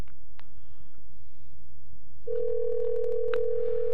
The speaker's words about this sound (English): We're ringing into Bruce McPherson's office.